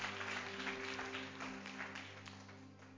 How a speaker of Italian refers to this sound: Facciamo un forte applauso al Signore, amen.